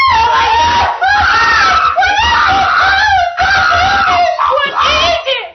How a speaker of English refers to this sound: That's when the screaming started.